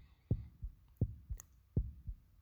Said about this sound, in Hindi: घड़ी की सुइयों के साथ साथ उसके दिल की धड़कनें भी बढ़ती जा रही थी।